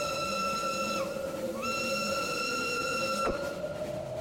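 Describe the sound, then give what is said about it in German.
A steady, multi-toned train whistle sounds continuously in the distance, its pitch briefly dipping and returning, fairly loud over a low rumbling background with a short sharp knock near the end. “Habt ihr das gehört? War das ein Zug?”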